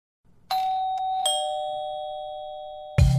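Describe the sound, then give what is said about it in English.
A two-tone doorbell chimes, a bright ding followed by a lower dong that rings out and slowly fades, then a sharp clunk or knock at the end. “And I remember I wrote in bold in the email invitation, please ring the bell to get in, because I was hosting and I didn't want to have to keep checking my phone all night.”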